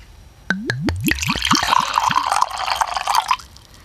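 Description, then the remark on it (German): Mead from a bottle of Dewdrop's new Licket variety, flavored with vanilla and cherry, pours into a glass, starting with a quick series of gurgling glugs from the bottle, then settling into a steady splashing, fizzing pour that runs for a few seconds before stopping. “So, dann schildere uns doch mal deine Eindrücke, während ich mir eingieße.”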